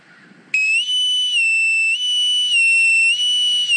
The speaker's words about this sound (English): Slowly. There's no art to the way he whistles.